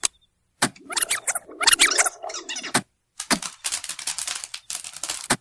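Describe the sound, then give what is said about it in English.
Stovetop popcorn popping in a pan, a dense, crackling flurry of sharp little pops that bursts on, stops briefly, then resumes just as fast and busy. No voices. “Stovetop popcorn, and it sounds like my favorite brand, Chintzy Pop.”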